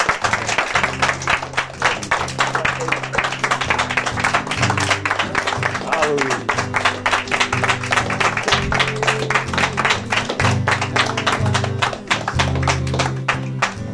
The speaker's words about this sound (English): Let's just give the Lord a hand clap, praise and thank you. Praise the Lord.